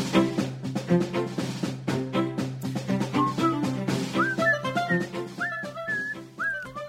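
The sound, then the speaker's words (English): Someone whistles a short, gliding melody over steady background music, the whistled notes entering partway through and sliding up and down at moderate loudness. “I don't know, I swear, I hear this whistling.”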